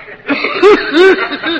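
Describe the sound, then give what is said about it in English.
A person performs a string of exaggerated, throaty coughs, three or four hacking bursts in quick succession with the middle two loudest, sounding theatrical and deliberately drawn out. “And now, will you show us the cough that made theatrical history in 1935?”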